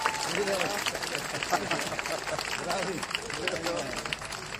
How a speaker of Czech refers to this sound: Já bych poprosil všechny, kdo to vnímají stejně, aby dnes poděkovali policistům, kteří nás chrání potleskem.